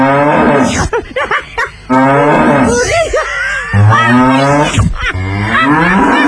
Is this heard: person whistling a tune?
no